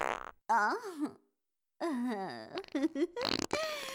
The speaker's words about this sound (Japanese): くっさい屁が止まりませんわ。あなたのお顔に脱粉できると分かって、私のおケツ歓喜のファンファーレを奏でておりますの。